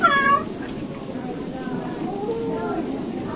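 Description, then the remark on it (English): A kitten, revived from a low body temperature with hot water bottles, booties and a very warm blanket, meows in a short, high-pitched cry right at the start, followed by softer, wavering mews. Steady background noise runs throughout, with a voice faintly present. “Hot water bottles, booties, and a super warm blanket revived the kitten.”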